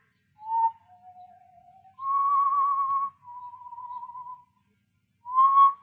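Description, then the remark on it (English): A person whistles a slow tune alone, five sustained notes rising and falling in pitch, a few of them louder with a slight wavering vibrato, separated by short pauses. “I heard that whistling again. Same tune.”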